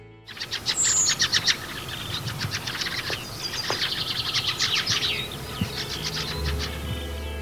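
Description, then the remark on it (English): A bird gives a fast-paced, chuckling call, rapid bursts of high, bright notes repeating in quick runs, fairly loud and continuous with no talking. “They have a fast-paced call that sometimes sounds like a chuckle.”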